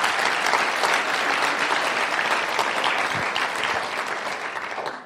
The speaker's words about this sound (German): Ja, ihr könnt ruhig mal für Jesus klatschen, das ist kein Problem.